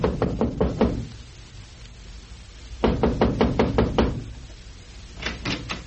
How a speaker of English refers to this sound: Well, the desperate Lum had decided to call on Squire and try to reason with him. It is now early evening, and we find him knocking on the front door of Squire's home.